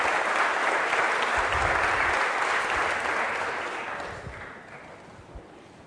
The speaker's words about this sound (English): It wasn't weird enough speaking in a chapel. All of you standing up to applaud is blowing me away, but thank you. That's very kind.